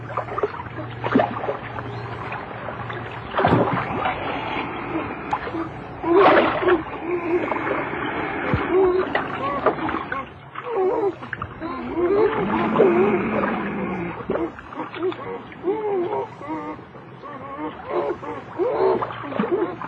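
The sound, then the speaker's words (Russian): Two beavers, a resident and an intruding neighbour, fight on the water, with repeated loud splashes and thrashing that surge and churn irregularly over a steady low background hum. “Тотчас на воде между хозяином и пришельцем завязалась борьба.”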